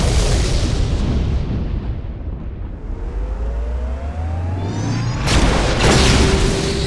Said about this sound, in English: For all his injuries, Vladek had almost made it to the door when the microgrens filled the dungeon with fire and blast.